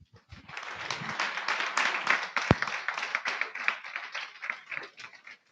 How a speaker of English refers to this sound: Let's clap for them.